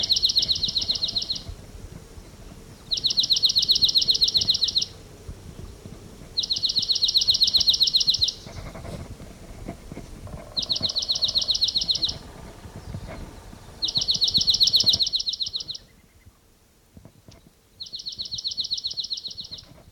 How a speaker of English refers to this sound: Recording that bird. I mean, it's a recording that I just collected.